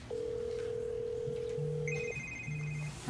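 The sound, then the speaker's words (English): A telephone on a desk rings with steady electronic tones: a long sustained tone, then higher beeping rings alternating with short low pulses, clear with no voices. “that must be Mrs. May's phone”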